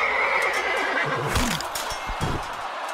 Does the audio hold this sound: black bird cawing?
no